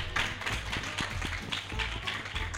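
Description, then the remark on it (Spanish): A crowd applauds in a steady, dense patter of many hands clapping at once, holding an even loudness for a couple of seconds, with a murmur of voices mixed into the clapping. “Aplausos pero para venido, pero ha venido.”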